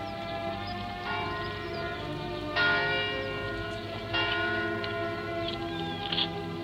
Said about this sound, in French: L'Angélus qui sonne à Rouen. La ville aux toits bleus, là-bas pleine de cloches dont la brise m'apporte la voix.